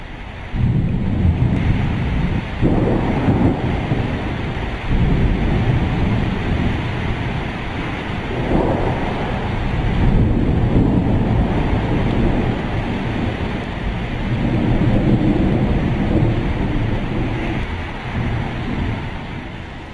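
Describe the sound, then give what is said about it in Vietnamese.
A fierce thunderstorm approaches a camp on a rocky slope, roaring continuously, with deep rolling thunder rumbling in waves, heavy wind gusting, and rain hissing throughout. No voices, just the loud, sustained storm. “Chúng tôi lạy được 5 dặm rồi cắm liều trên một dốc đá lại thêm một cơn bão khác đang kéo đến.”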